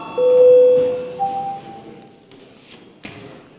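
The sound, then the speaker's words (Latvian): A parliament voting bell, rung before a vote on deputy Pimenov's proposal number 16, sounds as a steady electronic tone, holding a lower note for almost a second before a brief higher note, then fading into low background murmur with one soft thud. “Lūdzu zvanu, balsosim par 16. deputāta Pimenova priekšlikumu, lūdzu balsošanas režīmu.”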